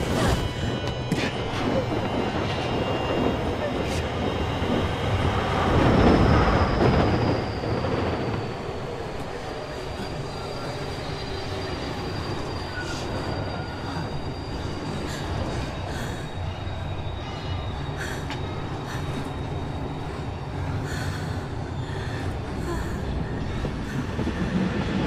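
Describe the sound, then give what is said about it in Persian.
A train rumbles steadily along the rails, loud, with a high metallic wheel squeal drawing out over the steady roar and a surge of noise as it passes; another train is approaching. “یه قطار دیگه داره میاد.”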